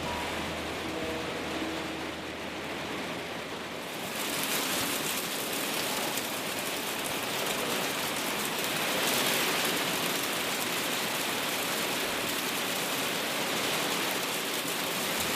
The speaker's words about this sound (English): Four seasons in a day. Just a wee hailstorm. Yeah. They tend not to last long, but they are frequent.